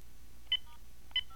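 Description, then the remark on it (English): Two short electronic telephone keypad tones, star then five, dialed on a phone line, each a clean beep with paired pitches, spaced about half a second apart over a low background hum with no talking. “Nope, I'm going to *5 because I don't want the echo going through.”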